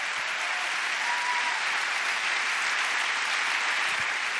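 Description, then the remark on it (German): Steady, dense applause from an audience for a drawing made live, a continuous wash of many hands clapping at even loudness for several seconds with no pauses, and no voices standing out. “Das ist schon ein Applaus wert.”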